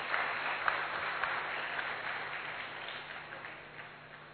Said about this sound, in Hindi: और क्योंकि हम सभी भी बहुत भाग्यवान हैं कि ऐसे सुंदर कार्यक्रमों में उपस्थित रहने का हमारा भाग्य बना है, अवसर बना है, तो अपने लिए भी जोरदार तालियां बज सकती हैं।